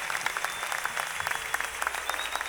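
An audience applauding the Lord with jubilation in worship, a steady dense patter of many hands clapping, sustained evenly throughout with no talking over it.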